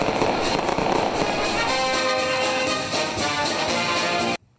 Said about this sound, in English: time to celebrate. Some fireworks and music. Woohoo! Ooh, look at that. That was a big one.